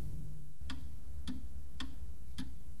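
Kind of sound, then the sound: household object, clock ticking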